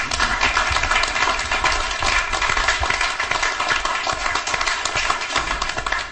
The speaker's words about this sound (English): can you make a comment that all of this is because of our listeners, and maybe give them some applause. Let's give a hand to our listeners.